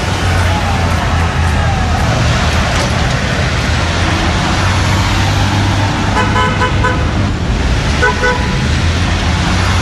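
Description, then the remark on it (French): Short car horn toots sound several times over a steady rumble of street traffic, with engines and passing vehicles filling the background of a busy road in a town in the American heartland. “Des petits coups de klaxon dans une ville de l'Amérique profonde.”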